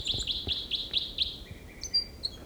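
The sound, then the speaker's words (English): A bird, the sixth individual being recorded, sings a short song phrase: six quick, evenly spaced high chirps followed by thinner trilled whistles, clear over a faint low background rumble. “Bird six there with a song phrase.”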